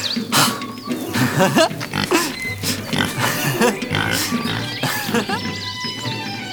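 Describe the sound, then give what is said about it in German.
A pig grunts and snorts repeatedly, with busy, overlapping oinks and a few higher squeals, plus some clattering in the background. “Was für ein Glück, dass ich jetzt das Schweinchen habe.”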